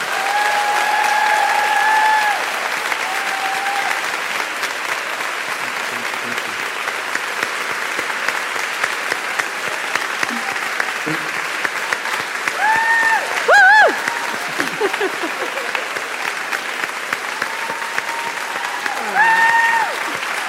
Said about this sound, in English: would you join me in a round of applause for the magnificent Mo Gowdak?